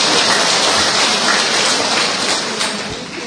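A crowd claps in a steady, dense round of applause as a woman is given a Christmas gift, loud and crackling throughout, easing slightly toward the end, with no voices over it.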